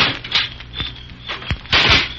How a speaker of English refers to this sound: Well, sort of creaking. It's a shutter. It isn't a ghost.